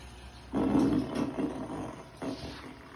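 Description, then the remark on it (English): A long, raspy fart sound effect, played on request by a voice-assistant fart app, rumbles for well over a second, loud, then trails into a shorter crackling sputter. No one speaks. “That was a long and crispy one.”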